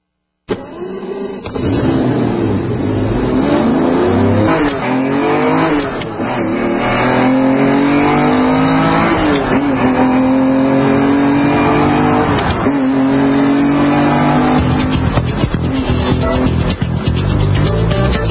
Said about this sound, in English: Sound of the exhaust coming out of the pipes and the fuel going in to the top of the carburetor.